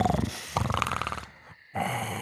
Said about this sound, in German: Nur die beiden Schweine schnarchten gelangweilt vor sich hin.